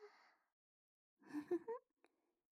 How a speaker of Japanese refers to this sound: 姉さんだって大きなあくびしてる。